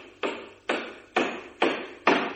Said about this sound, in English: The sound of a hammer banging on a table made from wood from a Viennese church